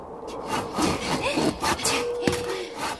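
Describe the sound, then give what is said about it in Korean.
A hand saw cuts through wood in the cold, in repeated rasping strokes, a steady back-and-forth rhythm of bright, scratchy bursts with a brief metallic ring partway through. No one speaks. “우리는 추운 데서 톱질하는데 정말 힘들다.”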